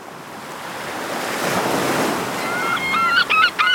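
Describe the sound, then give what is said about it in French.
A short radio jingle: the broad whoosh of breaking surf swells steadily, then a few bright, honk-like tonal notes ring out over the waves near the end. No voices. “C'est parti, on écoute donc nos deux chroniqueurs après un petit jingle.”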